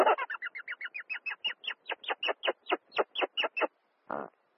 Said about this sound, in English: Meet the rock hyrax, sometimes called the rock rabbit or the dassy, common in rocky areas of Africa and the Middle East. They live in groups of up to 80 individuals. The hyrax is, well, they're a mammal that has a rare phenomenon, which is singing.